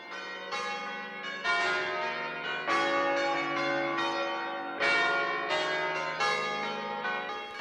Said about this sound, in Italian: Questa sezione che abbiamo intitolato Radio Campane è uno spazio pensato apposta per coloro che hanno passione ad ascoltare le campane